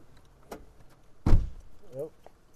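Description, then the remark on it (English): A single solid car door slams shut in a parking lot as someone gets in the car, a heavy low thud preceded by a lighter click and followed by brief faint murmuring voices in an otherwise quiet outdoor setting. “Yeah, we're just sitting in the parking lot and had our doors open, but someone was getting in the car, so try and be polite enough to... close the door”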